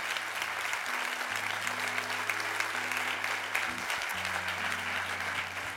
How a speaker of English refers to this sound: we can applaud it.